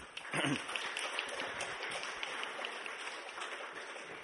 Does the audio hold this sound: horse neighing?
no